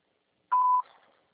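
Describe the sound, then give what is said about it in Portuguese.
A single steady, mid-pitched voicemail beep sounds for about a third of a second, loud and alone, followed by a brief faint rustle that fades out, after a Portuguese-language prompt to record a message. “A ponto final, grave sua mensagem.”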